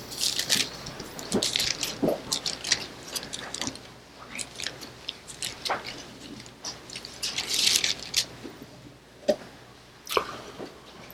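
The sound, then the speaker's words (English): Thin Bible pages being turned and flipped as listeners open their Bibles to 1 John: a scattered wash of soft rustles and brief crinkly swishes overlapping throughout, as if many books are being leafed through at once. “Ah, the sound of the pages turning.”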